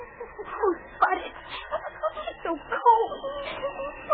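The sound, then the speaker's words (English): A small dog named Spud whimpers and whines, a steady run of high, wavering cries broken by short yips over a few seconds, moderately loud with no talking. A girl hugs the dog for warmth in a thicket of underbrush during a howling, snowy gale. “hugging little dog Spud close to her for warmth.”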